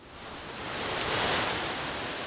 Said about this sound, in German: 14 Wasserfälle stürzen sich eine breite Schlucht hinab. Der River Athi, der zweitlängste Fluss Kenias, schlängelt sich hier auf seinem Weg Richtung Küste durch eine zerklüftete Landschaft.